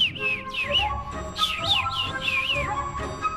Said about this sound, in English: Above them flew the little bird, chirping merrily.